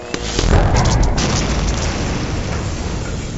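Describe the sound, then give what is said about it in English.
A ship explodes into a massive ball of flame with a deep, roaring boom, then rolls on as a sustained low rumble with crackling debris that slowly fades over a few seconds. No voices. “And she was thrown from the crow's nest like a toy as the entire ship became one massive ball of flame.”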